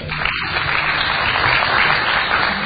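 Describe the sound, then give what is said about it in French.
A crowd applauds steadily, a dense continuous wash of many hands clapping at a fairly loud, even level throughout with no talking over it. “Applaudissez.”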